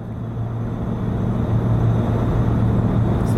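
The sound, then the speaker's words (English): A steady, heavy engine drone fills an airplane cabin while the plane climbs, a constant low rumble with a humming undertone that swells slightly louder over a few seconds. No one speaks. “While the plane is climbing, it's a little bumpy.”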